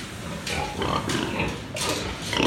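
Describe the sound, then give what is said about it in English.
About 150 pigs on a small commercial farm on the beach on the coast of Fujian, China, grunting and squealing together, a dense, continuous chorus of snorts and sharp squeals, with no voices. “So I went to a pig farm on the coast of Fujian, on the beach, and it was a kind of small commercial farm, about 150 pigs.”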